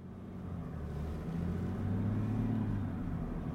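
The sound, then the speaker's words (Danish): A car's six-cylinder diesel engine rumbles low and steady, then swells as the driver shifts into D and presses the accelerator, its deep droning tone climbing and growing louder. No one speaks. “Til gengæld så kan jeg godt lige høre den her bulleren for den her 6-cylindrede dieselmotor.”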